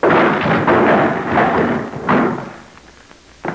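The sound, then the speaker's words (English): A door is battered and smashed open by a big man putting his shoulder to it to get in, with a string of loud, heavy thuds and crashing impacts over a few seconds, with no voices, ending in one last sharp knock. “I don't make doors too big for you. Put your shoulder to it.”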